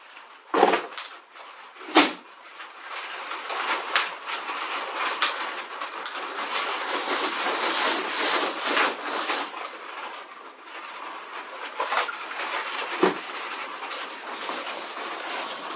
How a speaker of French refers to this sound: Il pleut.